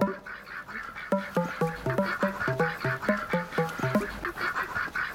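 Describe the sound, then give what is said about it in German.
A group of ducks on a farm quacks in a rapid, overlapping series of nasal calls, loud, tapering off after a few seconds, with a soft outdoor background and no one talking. “Die Schweine und die Lämmer, die Kühe und die Enten.”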